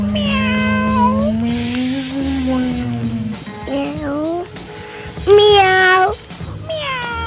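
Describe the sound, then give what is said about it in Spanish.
A cat meows loudly: first one long, drawn-out wail, then three shorter meows with brief pauses between them. “¿Quién es? Miau. Miau. Miau.”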